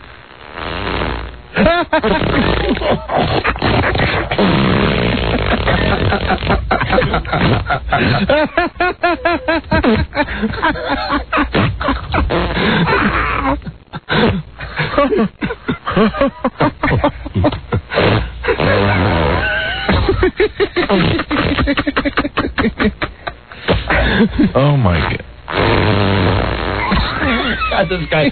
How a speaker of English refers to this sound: This guy has got talent. Ladies and gentlemen, we're listening to a man who is farting on command on his back. I want him to just keep going until he says, I have no more.